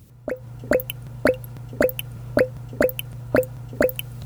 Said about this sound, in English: Yes, it is the season where fermenters are bubbling away. The airlock is releasing CO2 from the sweet cider that is fermenting into quaffable cider that you and I will enjoy.